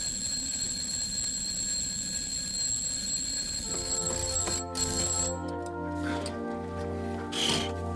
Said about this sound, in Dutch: Jongen, ik schrik me een ongeluk. Het was een wekker.